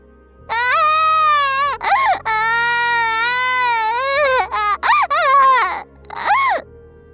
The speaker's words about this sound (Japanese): 帰ってすぐ、赤ん坊は泣き出して、おむつがガラガラで赤ん坊の機嫌を戻す。